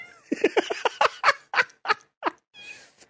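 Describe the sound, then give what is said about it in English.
A female cat meows in a quick run of about eight short, chirpy calls, fairly loud, followed by a softer breathy trill at the end. “Are you going to just interrupt?”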